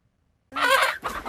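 backyard chickens clucking

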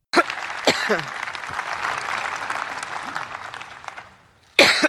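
coughing fit

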